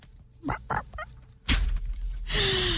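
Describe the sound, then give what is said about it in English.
A chicken, out on a walk with its owner, clucks three times in quick, short bursts, followed by a loud thump and a stretch of rustling, hissing noise. No one speaks. “And in the beginning, you can hear the chicken.”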